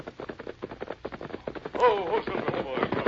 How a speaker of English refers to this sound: Sounds like a large crowd. Some sort of celebration.